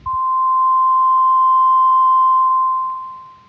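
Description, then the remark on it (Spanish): A steady, high-pitched ringing tone, like ears ringing, sounds loud and unbroken for about three seconds before slowly fading away. No one speaks. “zumbido en los oídos.”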